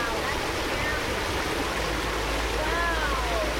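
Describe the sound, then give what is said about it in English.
Steady rushing of water from a mini waterfall in a stream gushing over a flat stretch of sand and mud, a dense continuous hiss and gurgle with a low rumble underneath, with faint whistly tones rising briefly near the end. “About 500 yards upstream from the first stop, we round a bend to the sound of rushing water. A mini waterfall gushes over a flat stretch of sand and mud.”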